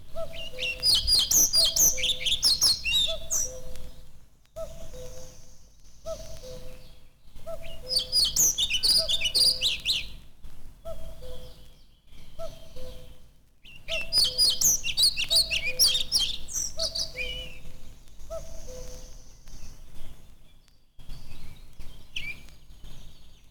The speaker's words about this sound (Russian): На заросших лесных сечах можно услышать протяжный свист дроздов белобровиков. После свистовой трели следует тихое, неразборчивое верещание.